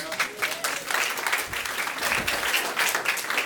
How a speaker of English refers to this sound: I feel like that needs a small round of applause.